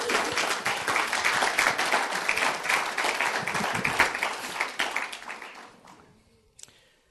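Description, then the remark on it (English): After a prayer, an audience claps for a new member of God's family in a dense, steady burst of applause lasting several seconds, then it thins out and fades, with one last stray clap near the end. “Why don't we give him a clap?”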